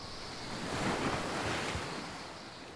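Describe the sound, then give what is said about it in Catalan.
Wind-driven sea waves surge and wash onto a sandy beach in a steady, broad roar, swelling slightly in the middle and easing off, with a gusty rush of wind over the water and no voices. “El vent bufa i mou l'aigua del mar.”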